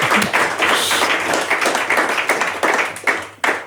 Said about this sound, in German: Das möchte ich mit dem Applaus jetzt festhalten. Wow.